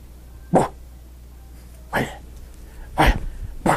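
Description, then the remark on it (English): A puppy gives four short, sharp yips at uneven intervals, fairly loud, with quiet gaps between them and no one talking. “And the only way I can get him to bark, let me see if I can.”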